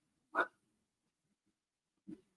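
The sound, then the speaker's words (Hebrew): Cats moving around on the floor, heard as two short, scuffling bursts about a second and a half apart, the first louder and brighter, with quiet stillness in between and no talking. “סתם, זה לא מחברים, זה חתולים.”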